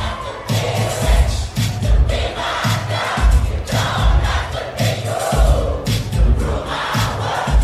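A large crowd sings along loudly over thumping dance music, voices blending into a continuous roar with a steady pounding beat underneath and occasional shouts rising above.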